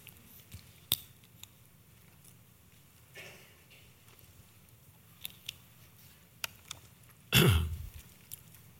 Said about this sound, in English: Matter of fact, why don't you just turn to Hebrews with me and look at chapter 2 as I get a drink of water here.